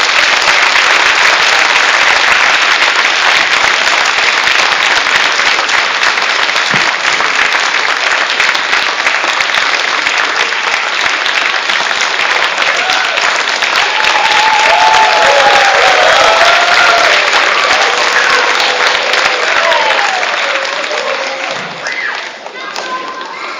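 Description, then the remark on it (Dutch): A large audience at a children's Christmas celebration claps loudly and steadily for the kids and the technical and lighting crew, a dense wash of applause with scattered whoops and voices underneath, holding strong before tapering off slightly near the end. “Mag ik een groot applaus voor alle kids en grote mensen van de techniek, licht en diemers.”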